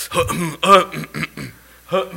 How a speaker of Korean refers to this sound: 자꾸 헛기침.